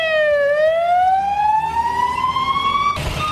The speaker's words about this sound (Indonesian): Ambulans melaju kencang di jalan-jalan dan Palang Merah Lebanon meminta dokter dan perawat untuk datang ke rumah sakit dan warga sipil untuk menyumbangkan darah.